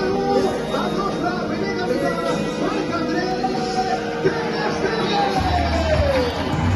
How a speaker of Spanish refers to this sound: Aplausos, pitos y la megafonía bien alta, que es algo muy común cuando los clubes no saben cómo va a respirar su afición.